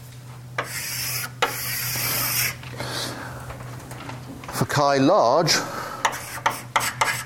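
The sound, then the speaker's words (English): Chalk rasps across a blackboard in several long, scratchy strokes as a flat plane is drawn, over a steady low hum, followed by a brief spoken phrase and a few quick, sharp chalk taps. “Well, I can easily draw a flat plane. It looks something like this.”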